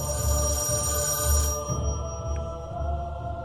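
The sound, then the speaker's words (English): A telephone rings steadily with a bright, buzzing electronic tone, sustained and fairly loud throughout, with no voices present. “Just as the spider swings its claws down, a phone rings.”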